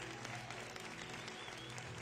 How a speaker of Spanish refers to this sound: Un aplauso a Pastora Elizabeth, por favor.